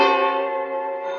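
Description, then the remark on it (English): A telephone bell rings loudly in one sustained, bright metallic burst lasting just over a second, with no voices around it. “When I got the bell, I thought fast.”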